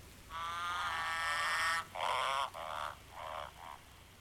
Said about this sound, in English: Yeah, so that croaking that we heard is actually, it's a male green and golden bell frog. So it's calling to its mate.